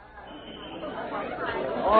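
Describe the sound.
A crowd of onlookers murmurs in overlapping chatter at a scene where police detectives arrive, a dense babble of indistinct voices that grows steadily louder, with one voice rising above the rest at the very end.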